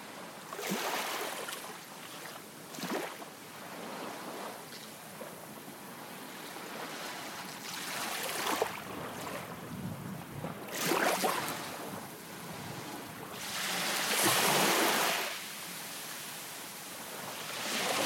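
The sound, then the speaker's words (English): Ocean waves break along a beach curving around a bay in repeated rushing surges every few seconds, rising and fading over a constant soft wash of surf, with no voices. “You glide towards them, and there's the sea sparkling from glancing sunlight.”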